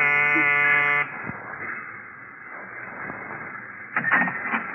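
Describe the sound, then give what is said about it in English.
A loud, harsh electric door buzzer at a ground-floor apartment in a narrow gray row house, pressed by a visitor, sounds in one steady burst of about a second, then cuts off to quiet room tone, with a brief rattling clatter near the end. “I smelled domestic trouble, but I pushed the buzzer anyway.”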